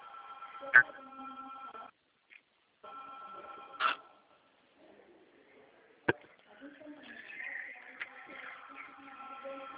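telephone beeping

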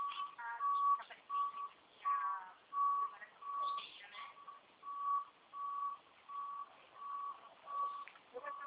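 truck reversing beeps

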